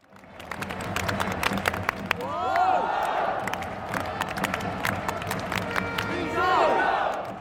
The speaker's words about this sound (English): In the capital, Beijing Guoan is taking on nearby rivals Tianjin in the Men's Football Super League. The crowds are packed into their seats inside the city's Workers' Stadium, looking excited, though few are expecting to see world-class football.